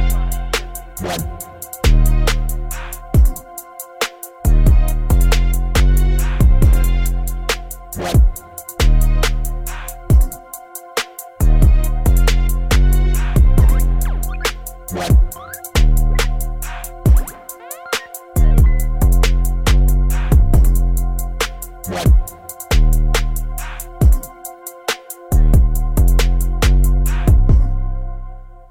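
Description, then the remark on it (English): A grime track plays loud, driven by booming sub-bass hits and a sharp, punchy beat that pulses steadily for the whole stretch with only brief drops. “…, new single.”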